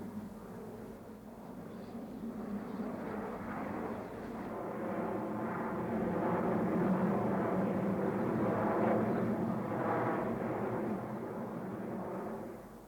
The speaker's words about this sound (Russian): Слышь, самолет. Не видит он нас.